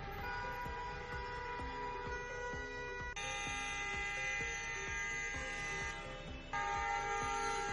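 Many vehicle horns of a protest convoy blare together while it blocks the area of the Los Peñones industrial estate, a loud, unbroken wall of sound, overlapping tones shifting now and then as some horns stop and others join in, with no talking.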